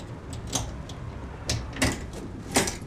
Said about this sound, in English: Have you got your key? And I'm perfectly capable of opening my own front door, thank you.